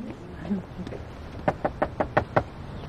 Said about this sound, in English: I'll go knock on the door. Here we go. Ready?